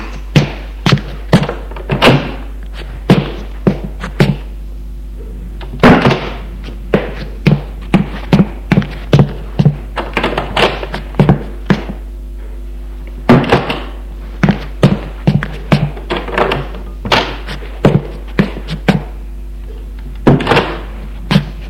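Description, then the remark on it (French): A long series of doors to the first-floor rooms of a deserted, abandoned house being opened and knocked about, with sharp wooden thunks and clacks coming in irregular bursts and clusters, some louder than others, with no voices. “Ouvrirent les portes des pièces du premier étage.”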